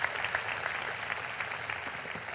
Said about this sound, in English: Hey, Healing Place, why don't we clap our hands for all of those that have joined us through television.